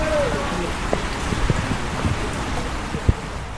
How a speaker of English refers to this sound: The lack of rain in December put a damper on hopes that the next harvest may just be enough to get by. Now the rains have finally come.